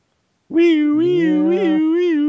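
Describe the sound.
A voice imitates a siren with a loud, sustained wavering tone lasting about two seconds. A lower second voice briefly joins partway through, and no words are spoken.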